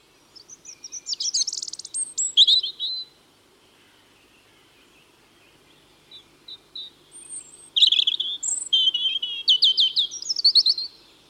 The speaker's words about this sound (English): The robin is one of the most familiar birds of the UK, regularly visiting gardens. Robins are also common in parks, scrub and woodland, making their presence known with a loud, territorial song.